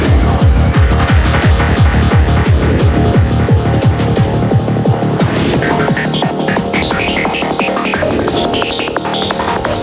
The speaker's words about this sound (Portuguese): Aqui sim, tem a força do som automotivo. Artilharia!